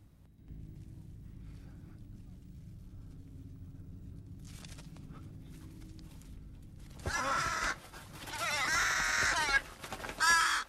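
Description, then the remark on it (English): A steady low rumble gives way to a burst of loud, harsh crow caws, several grating calls in quick succession near the end. “She looks up on hearing the crow.”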